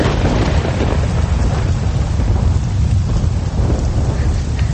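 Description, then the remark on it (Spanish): A heavy thunderstorm downpour: steady, dense rain pours down while deep thunder rumbles continuously underneath, loud, with no voices. “Como había varias lámparas de aceite prendidas, los niños se pusieron a mirar las esculturas de los pilares, cuyos rostros sonreían de manera tranquilizadora en medio de aquella tormenta.”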